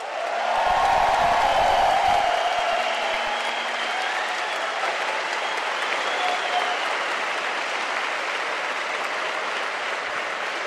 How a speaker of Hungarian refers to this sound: És külön köszöntöm, és a végén kérek majd egy nagy tapsot azoknak a hallgatóknak, akik vidéki oktatási központokban jelenleg is demonstrálnak a kialakult helyzet miatt.